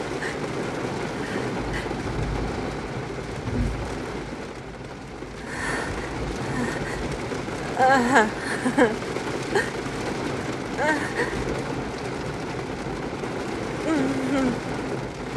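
Steady, dense rain hisses without a break for the whole stretch, with a low rumble beneath and a few faint, brief voice-like sounds surfacing over the downpour.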